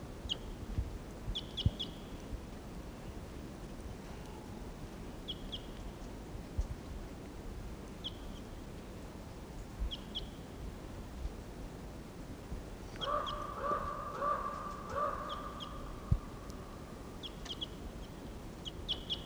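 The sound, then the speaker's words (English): A wild bird somewhere in the trees calls repeatedly with short, high chirps spaced irregularly, then a longer, lower, clucking call runs for a couple of seconds, all over a steady low rumble with no talking. “Now it's about 20 minutes later and he's still here in the trees somewhere. Stop. There's that wild bird.”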